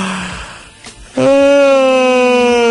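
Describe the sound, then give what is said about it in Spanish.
A quick breath in, then a loud, sustained voiced yawn done as a voice exercise, sliding slightly downward in pitch and holding steadily as a long, open moan-like tone. “Vamos a bostezar, un ejercicio también para que la gente lo pueda hacer en la casa.”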